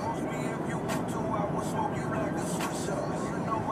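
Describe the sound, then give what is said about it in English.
Steady, dense roar of fast highway traffic going up a hill to the Golden Gate Bridge, cars doing about 80 to 85, with a couple of vehicles whooshing past over the constant rumble of tires and wind. “And now everyone's doing that thing where they were stuck in traffic for a while, so they're driving way too fast.”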